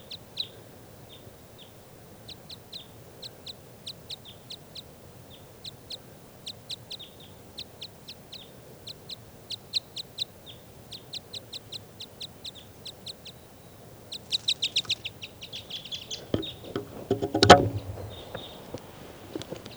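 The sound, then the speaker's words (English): A bird perched in a tree above a truck calls over and over in quick bursts of short, high notes, then a denser flurry and a louder rustling burst near the end. “Recording now, I hear that bird tooping over here somewhere.”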